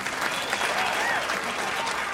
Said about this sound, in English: A big round of applause